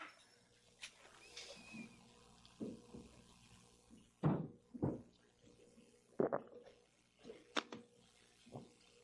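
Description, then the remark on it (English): Quiet sounds of a speaker drinking water in a church before getting started: a few soft sips and gulps with faint liquid splashes, scattered irregularly with no talking. “Get a little water here before we get started.”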